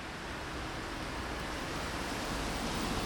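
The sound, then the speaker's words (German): A steady, dense wash of street traffic on the Sonnenallee in Neukölln on a summer day shortly before rain, with cars, buses and bicycles blending into one continuous rushing roar at an even level, with no individual passes standing out and no voices. “Autos, Busse und Fahrräder rauschen vorbei.”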